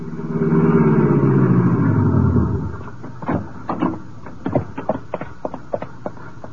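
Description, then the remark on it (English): A car engine rumbles loudly for a couple of seconds as it drives out to the Metropolitan Arena, then cuts out, leaving a string of scattered clicks, thumps and knocks. “I stumbled to the elevator, went downstairs, found my car, and drove out to the arena.”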